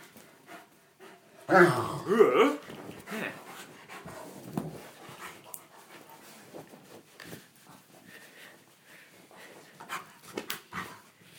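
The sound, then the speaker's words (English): A big dog pants and snuffles, lying on a big towel while its tummy is rubbed with a small towel, amid soft towel rustling, with a brief louder whimpering burst near the start and quieter breathy huffs afterward. “And now he's got the big towel underneath him, and I'm rubbing his tummy with the little towel and trying to avoid his teeth at the same time. Because he's got rather big teeth, haven't you, big dog?”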